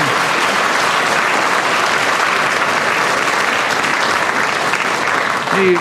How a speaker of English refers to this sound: Give him a round of applause for being there.